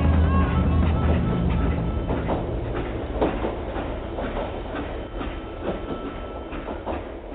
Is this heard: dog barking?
no